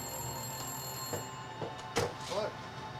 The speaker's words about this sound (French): Le téléphone se mit à sonner à 19h précises quand le père d'Amy arriva.